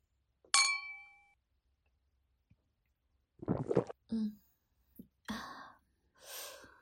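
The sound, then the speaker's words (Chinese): A single bright clink of glasses of alcohol in a toast near the start rings out and fades over about a second, followed after a pause by a few soft breathy gasps and sighs. “干杯。”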